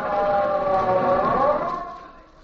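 An ambulance siren wails steadily, its pitch sliding smoothly in a continuous tone, then fading slightly at the end. No voices are heard.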